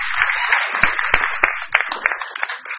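A crowd applauds steadily for students recognized for their hard work and accomplishment, a dense wash of many hands clapping with a few sharper, louder claps standing out. The applause stays fairly even throughout, with no one talking.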